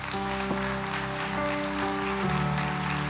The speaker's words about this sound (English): So remain standing. Praise God. Praise God. If you're standing up, just receive the applause of the people around you. Don't clap if you're standing. Don't clap if you're standing. Just receive the applause of the people around you.